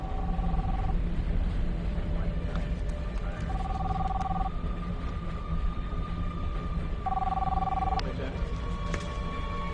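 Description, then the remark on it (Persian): A telephone call to a help line number with a Boston area code rings on and on with no answer, repeated steady electronic tones spaced a few seconds apart over a constant low rumble in the background. “جواب نمیده. تا جواب نده نمیشه ردیابیش کرد.”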